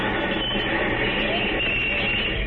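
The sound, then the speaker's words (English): A train brakes to a stop after a cord is pulled, a steady broad rumble and hiss of the carriage with faint high squeals of the wheels rising and falling, continuous with no voices. “I'm going to pull the cord and call the conductor. He's making the train stop.”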